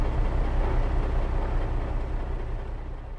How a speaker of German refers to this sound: Tja, unter Wasser läuft unsere Stromversorgung ja über Batterien. Und die waren jetzt fast leer. Daher laden wir sie nun mit dem Dieselmotor auf. Das Problem ist, dass der Motor Luft braucht. Deshalb mussten wir auftauchen.